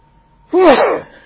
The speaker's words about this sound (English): I'm going to sneeze, for one thing.